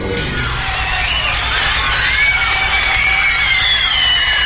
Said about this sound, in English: I'm sorry about that. And listen to them all cheering me as well. Awfully sorry.